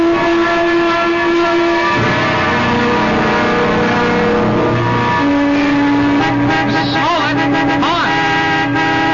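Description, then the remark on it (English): A brand new car drives up, loud, its engine hum mixed with long, steady horn-like tones that shift pitch a couple of times. No one speaks. “That looks like a brand new car you're driving.”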